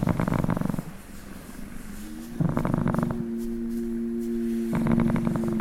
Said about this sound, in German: Birger erzählt mir, dass sie sich das Schnurren ihrer Katzen sogar aufgenommen hat. Für die Nächte, die sie durch ihre Arbeit nicht zu Hause sein kann.